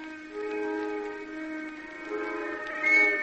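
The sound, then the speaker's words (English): Factory whistles blow together in a sustained, layered chord of steady tones, fairly loud and rising slightly toward the end, with no talking over them. “You hear them factory whistles?”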